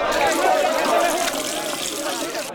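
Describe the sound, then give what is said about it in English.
Water splashes and trickles steadily as a man washes his hands in water, a continuous wet swishing that fades slightly toward the end. “He washed his hands.”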